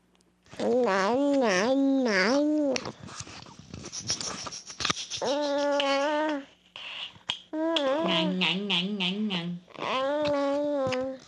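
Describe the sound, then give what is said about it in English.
An infant babbles, stringing together repeated consonant-vowel syllables like "nya" and "ah" in several short bursts separated by brief pauses, with a high, sing-song voice and no other talk. “The reason this is babbling is that for the first time we hear sounds that are clearly like consonants and vowels.”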